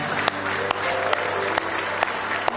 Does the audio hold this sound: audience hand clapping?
yes